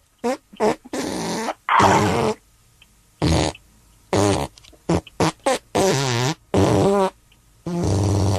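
A rapid series of loud, close fart sounds, some short and popping, others long and buzzing with wavering pitch, strung together in an uneven rhythm that loosely follows a melody.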